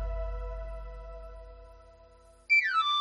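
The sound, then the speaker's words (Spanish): A knife grinder's whistle, the melody of a radio advert for El Afilador orujo liqueur from Galicia, sounds a quick, shrill run of notes sweeping downward in pitch, cutting in loudly after a steady, fading hum of sustained tones. “Llega el afilador, tu momento del día.”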